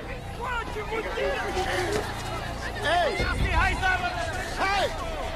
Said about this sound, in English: A tank looms over the heaving crowds at the railway station. The travelers get separated in the seething throng.